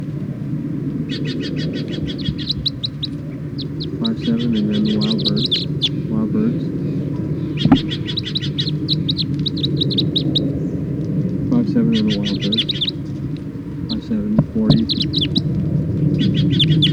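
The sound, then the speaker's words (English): Captive birds call in quick, high-pitched chirping bursts that repeat in clusters throughout, over a steady low rumble in the background. “Start recording the captive birds.”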